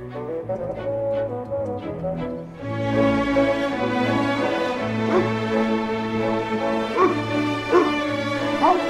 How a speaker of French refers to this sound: Les chiens.